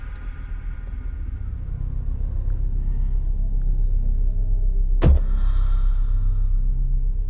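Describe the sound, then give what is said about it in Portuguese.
A car engine idles steadily with a deep, continuous low rumble, with a brief sharp click or thump partway through. “Desliga o carro.”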